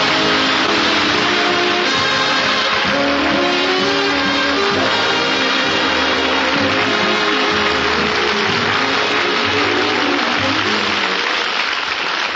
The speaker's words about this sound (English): I can't tell you what it means to me to come out here all by myself. You're all applauding, and you got those smiles on your faces, and you're glad to see me.